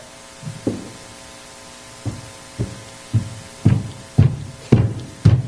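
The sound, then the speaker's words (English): Heavy footsteps thud at a steady walking pace, starting faint and growing louder over several seconds as someone approaches a door. No one speaks. “the footsteps, and through the door, you hear it.”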